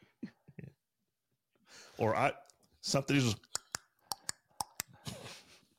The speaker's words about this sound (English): Are you still playing with us? You're fooling around. You're looking in a drawer over there